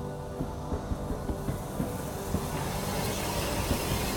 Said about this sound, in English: You turn now at the sound of the train pulling into the station. It's a very old steam train, and it makes that kind of hissing sound that only steam trains can make. The sound of the steam billowing out of the funnel and around the wheels.